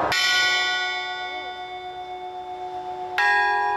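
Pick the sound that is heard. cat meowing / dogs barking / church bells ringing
church bells ringing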